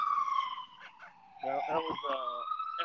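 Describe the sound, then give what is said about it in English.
An FDNY fire engine siren wails steadily with a slowly falling pitch, joined midway by a second, louder siren tone, loud and continuous throughout, with a voice briefly audible underneath. “FDNY.”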